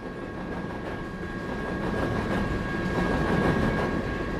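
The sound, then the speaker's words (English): A coal train rolls past on the rails with a steady, heavy rumble, rhythmic clacking of wheels and a thin metallic squeal, growing slightly louder as it goes by. “it's very difficult to know how much coal dust really blows off coal trains and what, if any, impact coal dust could be having on human health.”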